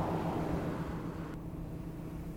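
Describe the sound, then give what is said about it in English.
A barite mill for mining, which looks like a cement plant, on a town's main street, operating with a steady, dense industrial drone, a low mechanical hum and a broad roar that loses some of its hiss partway through. No voices. “Actually, it's a barite mill, which has something to do with mining, the way everything has to do with mining around here.”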